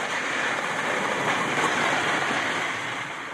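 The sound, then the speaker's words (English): A dense, continuous din of Arctic sea ice crunching and grinding as it moves on a windy day, blended with a steady windy hiss, holding an even loudness throughout with no voices. “You know, but when the ice is moving and it's a windy day, it's, you know, there's a background din of crunching going on.”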